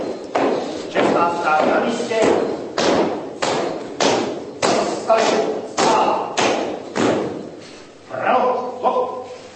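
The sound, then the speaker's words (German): Presidential guards in dove-blue uniforms goose-step across a parquet floor in a grand room of Prague Castle, heavy boots stamping in a steady, regular marching rhythm, each step a loud, sharp thud, with faint voices audible beneath and after the steps. “Die Türe öffnet sich und die Männer der Präsidentengarde in ihren taubenblauen Uniformen schreiten im Stechschritt übers Parkett.”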